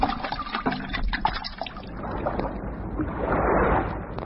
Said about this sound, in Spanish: el lobo cayó al agua, donde murió ahogado.